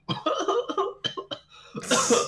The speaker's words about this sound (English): I was laughing through a cough. Didn't work. And then, it sounds like I'm sick. I'm not. I'm just really still waking up.